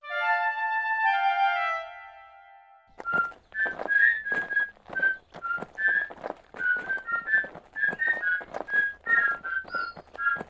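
A cheerful tune is whistled in short, bright melodic notes over a steady rhythmic clopping beat, after a few seconds of sustained, layered musical tones.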